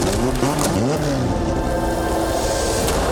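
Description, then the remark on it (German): A race car engine roars loudly and steadily, its pitch sweeping up and down as it overtakes on the track in the rain, with a dense, continuous mechanical drone throughout. “Und er überholt!”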